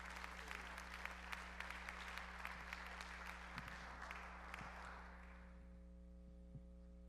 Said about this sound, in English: Give them a praise, a clap offering, please.